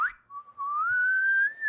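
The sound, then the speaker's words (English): A single person whistles one sustained, steady tone that slowly climbs in pitch toward the end, clear with no talking. “All right, this is the end of the whistling segment of our podcast.”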